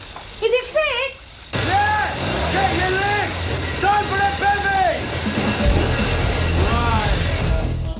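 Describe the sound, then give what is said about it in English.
After a brief voice, a Norton motorcycle engine is kicked over with the kickstarter, fires up and keeps running loud and steady, while people talk over the noise. “He kicks the bike's engine over again.”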